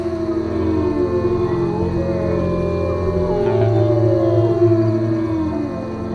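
wolves howling

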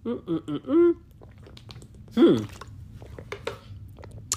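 sipping water

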